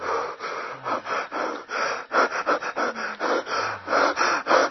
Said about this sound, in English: Or I have an itch and guess what? I'm not going to scratch. I'm going to breathe and relax instead.